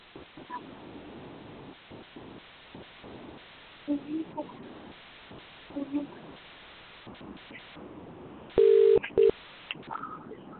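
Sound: telephone line dialing tones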